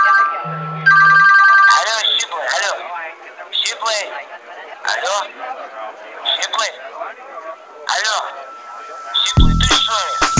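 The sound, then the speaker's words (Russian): A mobile phone ringtone plays a pop song with a female singer's voice, sounding tinny and compressed, after a short electronic beep; a low thump lands near the end. “Мобила вибрирует мило. Поет певица …”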